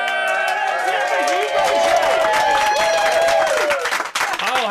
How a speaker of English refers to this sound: This may be one day when the studio round of applause is louder than the control room round of applause.